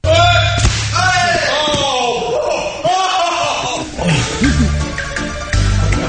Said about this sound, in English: He gets kicked in the head and neck so hard. Knocks like him right off his feet. Clearly this is very visual, but just listen to the audio of him, and I mean just pummeled to his dome by this guy's shin.